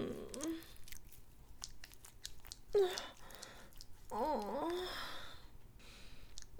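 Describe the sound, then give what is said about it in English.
Wet, squelching sounds of a woman masturbating her dripping wet vagina come in quick, irregular bursts of sticky clicks and smacks. Short breathy moans rise over them at a few points. “Listen to my dripping cunt.”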